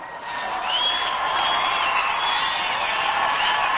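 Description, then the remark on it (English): Thousands of Iranian supporters cheering Mrs. Ebadi's arrival at Tehran's Mehrabad airport, a dense wash of voices with whoops and shouts rising above it, loud and steady throughout. “Mrs. Ebadi arrived Tuesday at Tehran's Mehrabad airport to the cheers of thousands of Iranian supporters.”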